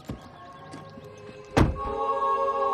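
A heavy truck door thunks shut once as a truck parks in front of a brick church with a snow-covered lawn, a solid thud midway through, with a low steady engine hum droning underneath and swelling slightly afterward.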